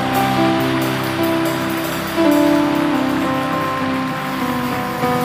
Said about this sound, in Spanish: ¡Dele un aplauso! ¡Dele un aplauso a Él!